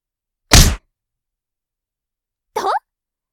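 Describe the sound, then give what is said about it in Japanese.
A single light punch to the nose during a boxing bout lands with a soft, dull thwack, then after a two-second pause comes a brief pained grunt from a voice. “軽くとはいえ、鼻にパンチ当てられてちょっと痛かったんじゃない？”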